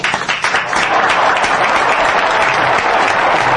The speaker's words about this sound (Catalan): Hora 22, un aplaudiment. Som-hi, oh!